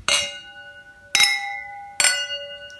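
wine glasses clinking

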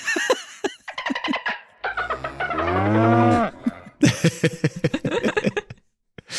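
cow mooing sound effect

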